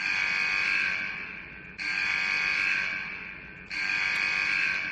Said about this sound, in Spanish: Mira, nos vamos hasta el año 2013, prisión de Castellón 2 en la localidad de Albocàsser. Salta la alarma, se está produciendo un intento de motín.